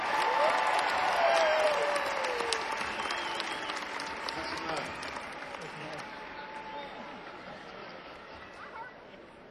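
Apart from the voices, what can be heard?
concert audience applause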